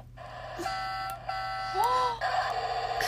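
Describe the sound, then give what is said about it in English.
An electronic toy's tractor sound: a few buzzy, horn-like tones, one swooping up and back down, over a steady low hum, with no one speaking. “What does the tractor sound make?”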